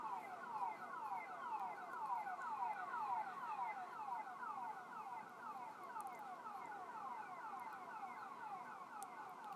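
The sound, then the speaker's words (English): An alarm blares nonstop, its tone sweeping downward again and again in a fast, steady cycle. It stays constant throughout, with no one speaking. “Like, when our alarm goes off at work, someone is dispatched immediately.”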